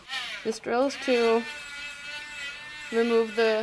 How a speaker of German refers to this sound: Im dunklen Bereich ist der Knochen am härtesten. Deshalb entferne ich mit dem Bohrer die helleren Stellen.